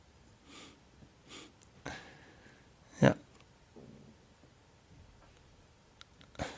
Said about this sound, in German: Auch schön das Atmen jetzt. Jetzt hören wir ihn atmen.